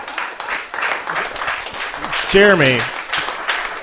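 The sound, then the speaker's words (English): A crowd applauds with dense, steady clapping throughout, and a voice briefly rises over it midway with a drawn-out, sliding shout or cheer. “you gotta, even if you're clapping, you gotta play the piano, man.”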